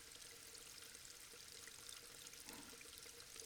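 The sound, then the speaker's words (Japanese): Water flows steadily with a continuous bright, hissing rush and faint bubbling, an even unbroken stream with no voices, holding a constant level throughout. “雨音、水の流れる音、”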